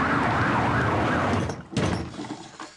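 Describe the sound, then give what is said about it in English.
An unmarked car speeds past with a wailing siren rising and falling over loud road noise, then a sharp whoosh as it passes and the sound fades slightly. “An unmarked car speeds along.”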